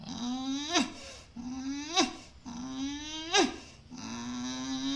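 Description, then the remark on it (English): A dog makes four strained, rising growl-whines in a steady rhythm, each ending in a sharp breathy catch, moderately loud with no talking. “Only Mrs. Way remained a reserve, the skeptical reserve, of her compulsive cockeyed squint and breathless growling”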